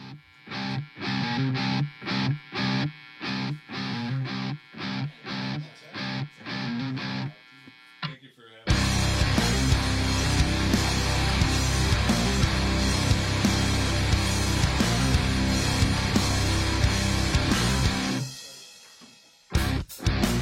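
Loud, distorted rock guitar chugs in short, staccato bursts, then after a brief gap the full band crashes in with a dense, driving wall of sound. No vocals yet.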